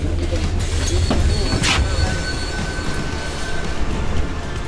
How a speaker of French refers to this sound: Monsieur, est-ce que vous pouvez arrêter le bus, s'il vous plaît? J'habite juste ici.